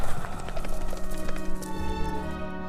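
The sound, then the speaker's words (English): Horse hooves pound in a quick, steady clip-clop as two horses gallop past at night, fairly loud, over a sustained tonal background hum. “Both his old borrowed horse and the demon rider continued riding past him in the night.”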